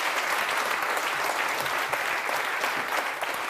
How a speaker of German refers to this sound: Ich habe ein bisschen schlechtes Gewissen, denn es spielt ja gerade Deutschland gegen Niederlande. Ja. Und Sie sind trotzdem hier im Weserstrand. Herzlichen Dank. Das ist nochmal ein extra Applaus wert.